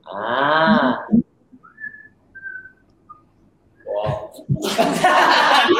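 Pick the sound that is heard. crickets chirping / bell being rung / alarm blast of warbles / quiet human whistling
quiet human whistling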